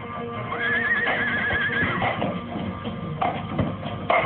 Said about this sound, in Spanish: Los caballos relinchan nerviosos, mirando impresionados a aquel hombre de quien se sospecha, al conjuro de la luna llena, pueda convertirse en hombre lobo.